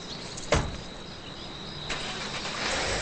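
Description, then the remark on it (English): A woman gets into her car: the car door shuts with a single solid thunk, then after a short pause the engine starts up and settles into a steady hum, fairly quiet. “takes a long look over her shoulder before getting into her car.”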